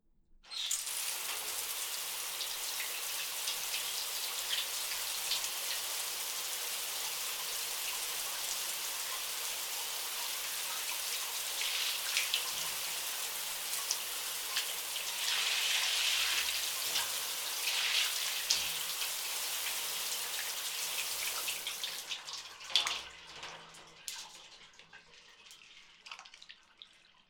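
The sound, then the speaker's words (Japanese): A steady shower spray runs for about twenty seconds, rinsing lather from hair, a dense hiss of falling water that shifts slightly as it rinses, then cuts off, leaving a few scattered drips. No one speaks. “シャワーで泡を洗い流そう。”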